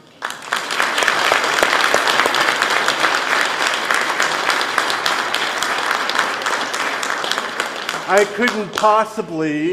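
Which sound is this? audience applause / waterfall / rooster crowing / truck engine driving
audience applause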